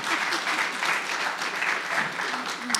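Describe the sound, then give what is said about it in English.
A crowd applauds steadily, many hands clapping in a dense, even wash of sound that holds at a constant level from start to finish, with no voices rising above it. “You can clap, too.”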